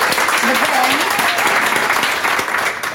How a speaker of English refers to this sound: Please help us greet him here with a big round of applause.